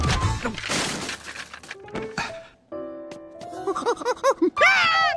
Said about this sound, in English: He accidentally knocks a car off the shelf and it hits the man on the head.